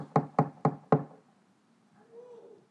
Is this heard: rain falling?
no